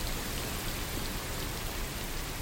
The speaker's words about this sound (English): Is that rain? So yeah, that's rain, which many people find very relaxing. But yeah. This isn't just any rain. It's rain that has been modified to make it white noise.